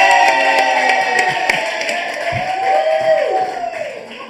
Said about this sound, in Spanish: O sea, a este menso sí le aplauden muchísimo y a mí...